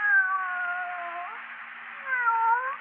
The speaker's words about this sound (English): Here, kitty, kitty, kitty, kitty, kitty. Oh, you listen, won't you? Nice, kitty.